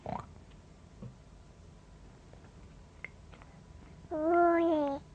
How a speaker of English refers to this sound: Pig. Pig. The pig says.